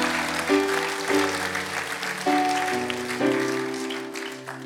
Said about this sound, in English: Some of you are clapping and you thought, oh dear, some of my friends shop on a Sunday in Exeter.